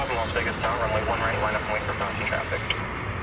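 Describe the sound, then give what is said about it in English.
A steady, broad roar of an airplane taking off somewhere in the distance, continuous throughout, with muffled voices talking over it. “And I'm seeing planes take off, they're far away.”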